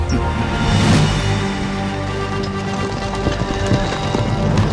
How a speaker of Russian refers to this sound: Две тысячи лошадей скакали в ночи. Во главе каждой сидел царский стражник, а позади один из молодых эндолитов.